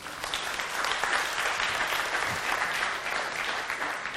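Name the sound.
audience hand clapping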